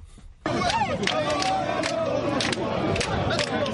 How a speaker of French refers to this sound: La rue grogne à Lomé. Des manifestants sont visibles sur plusieurs kilomètres. Les leaders, militants et sympathisants de l'opposition togolaise exigent dans la rue le retour à la constitution de 1992.